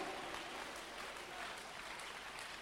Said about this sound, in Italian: Vogliamo applaudire Gesù. Alleluia. Alleluia.